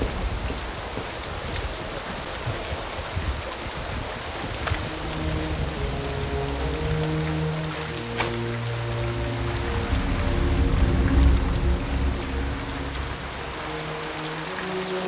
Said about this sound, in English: With all this rain, it's no wonder.